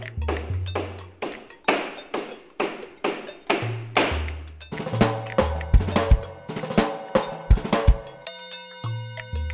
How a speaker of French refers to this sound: C'était le marteau.